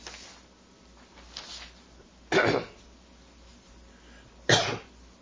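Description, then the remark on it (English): Two loud, harsh coughs about two seconds apart, with a softer throat-clearing rasp earlier and quiet room noise in between; a person still coughing after inhaling propane into the lungs. “I'm still coughing from all that propane that went down in my lungs.”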